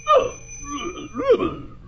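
A musical alarm clock rings out a short, wavering tinkly melody over a steady high-pitched ring, two brighter bursts of notes, moderately loud, with no one talking.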